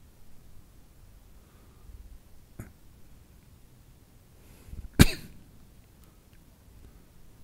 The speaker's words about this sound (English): Just wait for that little cough to subside, and now my body starts to feel really relaxed.